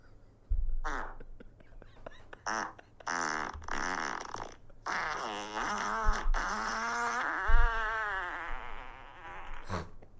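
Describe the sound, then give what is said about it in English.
A series of long, wet, sputtering farts with rising and falling buzzy tones, recorded by men and played back loudly, with short bursts and pauses between them and no talking. “I've been added to a group where men record themselves farting.”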